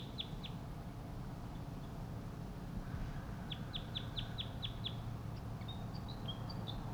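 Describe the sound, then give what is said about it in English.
A wild crossbill gives short, high tooping calls: a pair of notes, then a quick run of about seven evenly spaced ones, followed by a few thinner whistles over a steady low rumble. “The tooping call from one of the wild birds.”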